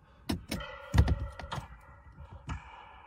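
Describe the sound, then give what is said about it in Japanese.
Taiko drum beats: about six deep, booming hits in an uneven rhythm, a few struck in quick pairs, ringing over a steady tonal hum with no voices. “さあ、太鼓の音が。”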